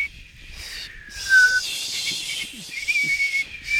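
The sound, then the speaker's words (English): A thin, squeaky whistle wavers tunelessly at a high pitch, sliding down slightly then holding, with a breathy hiss around it, close and fairly quiet with no talking. “It sounds like it might be a tongue whistle, you know, through the teeth rather than a lip whistle.”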